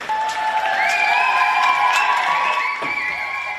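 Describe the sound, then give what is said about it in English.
A crowd in Paris cheers and shouts continuously for a few seconds as former actress Adèle Haenel leaves a court after a verdict, a dense wash of many voices with some higher cries rising above it, staying fairly loud throughout. “Cheering there as former actress Adèle Haenel left a court after the film director she had accused of assaulting her was found guilty.”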